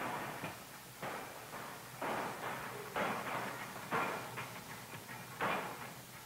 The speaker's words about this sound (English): These forceps are made from two similar forgings assembled together. They start as a bar of special alloy of stainless steel, and in a very short space of time, the hammer has forged another pair of forceps.